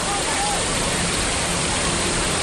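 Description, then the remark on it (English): A loud, steady roar of a flash flood rushing down Clear Creek Canyon into a town on Memorial Day 1894, a dense, unbroken churning wash that stays constant, with no pauses and no clear voices. “The year was 1894, and the flash flood came rushing down Clear Creek Canyon and into the town.”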